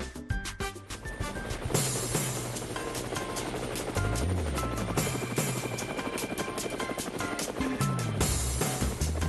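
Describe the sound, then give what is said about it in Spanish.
Helicopter rotor blades thump in a fast, steady rhythm, loud, with a deep engine drone underneath, continuing throughout with no voices. “y por supuesto las aspas del helicóptero nos indican que vamos a viajar y por supuesto vamos a hacer un viaje”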